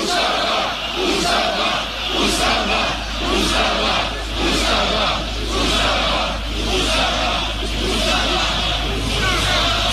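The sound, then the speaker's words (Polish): A large crowd chants the slogan "ustawa, ustawa, nie dla roszczeń" in unison, loud and rhythmic, with repeated vocal surges roughly every second, over a constant low hum. “Ponownie, ustawa, ustawa, nie dla roszczeń, krzyczą zgromadzeni.”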